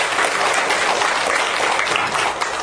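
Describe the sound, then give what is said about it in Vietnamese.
A crowd gives a round of applause to members of the audience, clapping steadily in a dense wash of many hands applauding at once, sustained and fairly loud throughout with no pause. “Dạ, yeah, cho quý vị một tràng pháo tay đi.”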